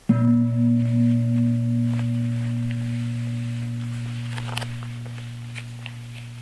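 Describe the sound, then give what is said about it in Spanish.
A single gong strike during a breathing meditation rings out with a deep, humming low tone and a brighter overtone, sustaining steadily and fading slowly over several seconds, with a few faint clicks near the end. “Siempre que suene el gong, observamos muy rápidamente en qué estado se encuentra nuestra mente y seguimos con nuestra inhalación y exhalación.”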